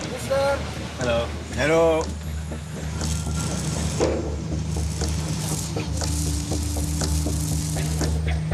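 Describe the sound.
A ferry engine drones steadily and loudly on the water throughout, a constant low hum with washy background noise, while voices talk briefly near the start. The ferry runs between the islands of Bali and Java in Indonesia, a two-hour crossing amid exhaust and diesel fumes.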